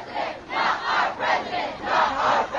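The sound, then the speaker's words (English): A crowd of more than 1,000 Berkeley High students and teachers chants in unison while marching in protest to UC Berkeley's Sproul Plaza in Berkeley, California. Their voices rise and fall in a steady repeating rhythm about every half second to second, loud and dense like many people marching together. “A sense of fear, anger, and disbelief permeated the crowd that marched to UC Berkeley's Sproul Plaza, a historical center for civil unrest.”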